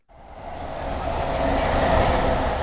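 A train rumbles across an overpass in Tokyo, Japan, its loud, steady roar of wheels and rails swelling slightly as it passes, with no voices.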